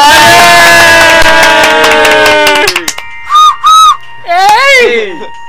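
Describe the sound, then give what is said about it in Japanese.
A loud burst of crowd cheering and clapping fills the first few seconds, then cuts off and gives way to two short, sharp whistles and a longer swooping whistle. “はい、拍手。”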